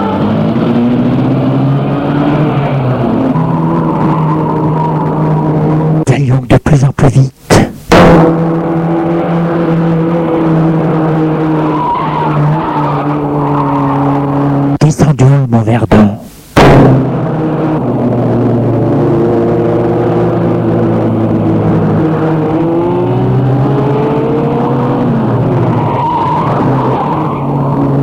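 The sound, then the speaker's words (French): A car engine is started and roars, its pitch climbing as it accelerates, broken twice by short harsh bursts like tires skidding before the steady revving resumes. “J'ai posé ta main sur mon bras et mis le moteur de la voiture en route.”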